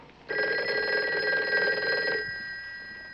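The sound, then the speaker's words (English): A telephone bell rings loudly in one sustained, buzzing trill of about two seconds, then cuts off, leaving a faint high hum; nobody speaks. “No, not that phone, 99. It's the secret agent's hotline. I'll get it.”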